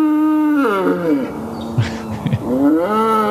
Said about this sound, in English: Is that a real bull sound? That is a real bull sound. Where did you find that?